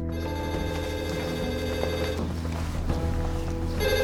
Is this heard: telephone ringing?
yes